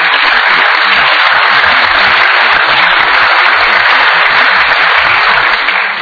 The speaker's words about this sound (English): So give him another round of applause.